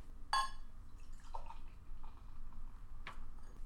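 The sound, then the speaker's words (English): Duvel Belgian Golden beer pours from a 750 milliliter bottle into a glass: a few soft glugs and splashes break through a quiet, steady background, with no one speaking. “As soon as I get done pouring this, I'll tell you a little bit more.”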